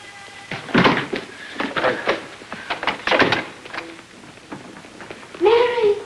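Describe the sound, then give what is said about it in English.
A door to a room off a dark corridor opens with a few solid clunks and knocking thuds, fairly loud, followed by a rising creak-like tone near the end, with faint voice-like sounds in between. “Farther down the hall, Mary opens the door to a room and ducks inside.”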